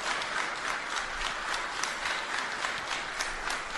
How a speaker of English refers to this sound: That is the Movimiento Poder crowd clapping.